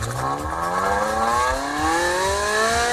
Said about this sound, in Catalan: Així sona un Ferrari normal i així sona el nou elèctric.